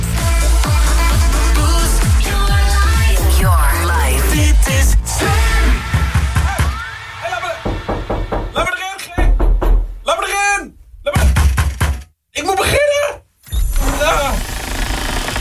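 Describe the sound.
A dull bump against a studio door as someone standing in the studio leaned against it cuts through loud music, followed by voices talking in fits and starts.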